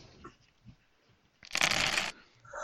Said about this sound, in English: Alright, let me roll some dice here for open locks, and there's a difficulty involved.